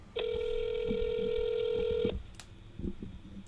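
A phone line rings once with a steady electronic ringback tone for about two seconds as a phone call is placed, then cuts off, leaving faint background noise with no voices.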